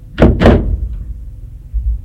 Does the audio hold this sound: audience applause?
no